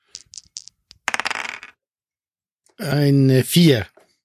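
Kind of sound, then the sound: impact, rolling a die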